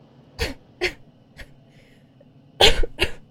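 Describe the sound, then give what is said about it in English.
A series of forced, exaggerated coughs made to seem sick while boarding: two sharp hacks, a lighter one, then a harsher double cough near the end, with no speech. “Come on, remember to cough periodically.”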